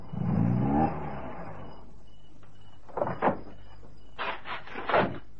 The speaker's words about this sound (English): He's got to try and get back onto the road. There's only bush through there. The car coming, Sarge. I see him.